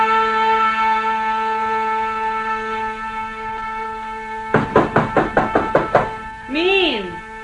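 A quick, even series of about nine fairly loud knocks on a wooden door over a steady background hum, followed by a short vocal sound.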